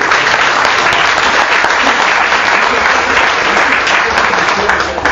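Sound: audience applause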